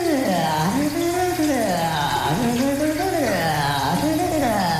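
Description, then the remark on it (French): Shower water runs in a steady, continuous hiss while a voice sings sensually in the shower in sliding, wordless melodic phrases, fairly loud throughout. “chante sensuellement dans sa douche.”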